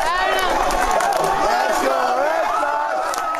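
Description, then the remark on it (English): Hundreds of students at Plymouth State University parade across campus after a Red Sox World Series win, screaming and cheering continuously, many voices overlapping in loud, wavering yells without pause. “But outside, just a few hundred yards away, there's an even bigger eruption as hundreds of students at Plymouth State University exit their dorms and crowd together into a huge makeshift parade that streams and screams across campus.”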